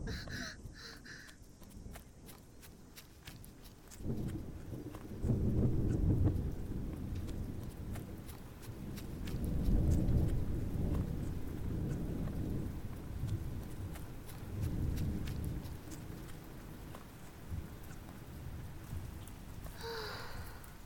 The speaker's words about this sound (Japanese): 少し雨に打たれちゃいましたね。すみません、私が傘持ってくれば。山の天候は変わりやすいのに。お洋服も濡れてしまいましたね。